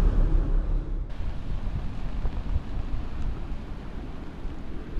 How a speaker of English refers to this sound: we made it to a beach of some sort. Wow, it's these are waves that are bigger than anything I've ever seen. Yeah, it's very, very choppy and rough today.